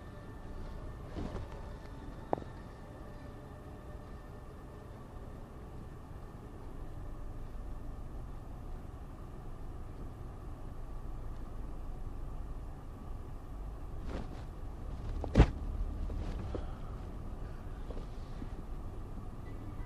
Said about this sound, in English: We're hitting rush hour traffic now. This is going to be horrible.